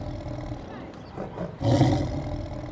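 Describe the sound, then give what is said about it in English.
A person imitating a tiger voices a single loud, growly roar, bursting in about halfway through after a low rumbling murmur, held briefly before fading. “They're tigers. Tigers! Roar!”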